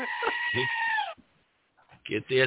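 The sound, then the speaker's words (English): A loud, wavering, nasal bleat from a female goat giving a mating call rings out for about a second, followed by a short pause and then a brief burst of voice. “Your goat is a female goat. You see, that was the mating call.”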